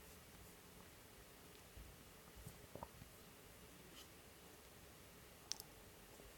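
Faint, scattered keyboard typing: a handful of soft, irregular key clicks spread over a quiet, hissy background, with a slightly sharper tap near the end. No one speaks.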